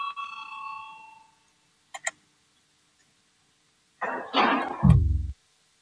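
parliamentary voting bell ringing

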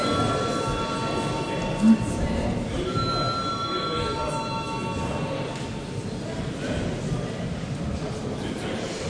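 parliament voting bell ringing

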